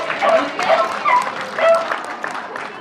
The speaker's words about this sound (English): This is Lucy, and she's barking for you.